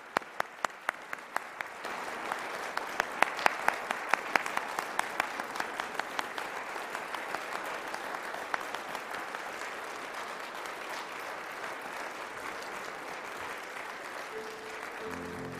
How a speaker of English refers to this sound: Thank you, graduates, for blessing us this evening. Let's applaud them one more time. Thank you. Good job.